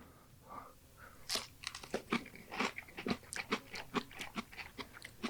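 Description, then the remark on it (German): Crunchy chewing with a quick irregular run of crisp bites and crackles, loud and dry, heard alone without any talking. “Finde ich ja immer unangenehm, so Leute, die so einen Podcast irgendwie essen, schmatzen, Essgeräusche machen.”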